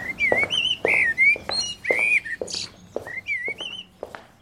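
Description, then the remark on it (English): Fluting, whistled blackbird phrases with warbling rising and falling notes and harmonics, repeated in short bursts with brief pauses, heard along the main corridor of a hospital; no talking. “Firstly, if you come to the hospital and you walk up the main corridor, which most people do on arrival, you hear the sound of a blackbird going up the main corridor.”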